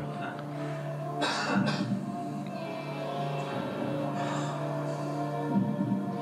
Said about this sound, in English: Now, they increased the volume of the cough for this documentary. But it was just somebody sitting in the crowd.